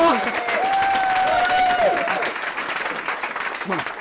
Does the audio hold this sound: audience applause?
yes